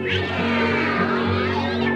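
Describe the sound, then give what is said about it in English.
A person imitates a cat's meow with one long, drawn-out, wavering call, sung loudly with no other sounds around it. “The cat went.”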